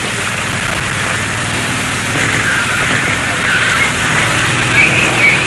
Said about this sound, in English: Anyway, here come the helicopters, and they are now heading for the prison. One of the large army helicopters now going overhead, over the wall, into the prison.